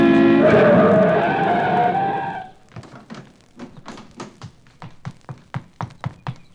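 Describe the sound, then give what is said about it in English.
A car brakes hard on a highway to avoid hitting a person who has fallen in the road, its tires letting out a loud, screeching skid for about two seconds, followed by a quick series of sharp taps and knocks as it comes to a stop. “In the middle of the highway, I waited for a car to go by, but as it approached,”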